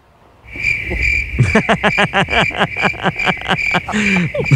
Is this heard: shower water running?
no